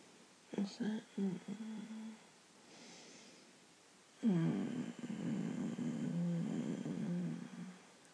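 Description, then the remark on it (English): A human voice imitates a kitten's purr: a few short, throaty bursts, a pause, then a long, low, rumbling purr that vibrates steadily for several seconds. “Purring like a kitten, yeah.”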